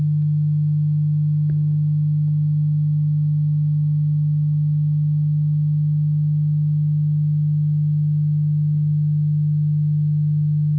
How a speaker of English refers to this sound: Okay, so I'm going to put in 100 and 150. I could just play 50 cycles, but I'm going to put in 100 and 150 so we can hear the difference between them. Okay, here we go. 100, and so this is 50 cycles per second.